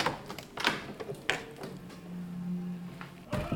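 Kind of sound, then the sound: household object, door being opened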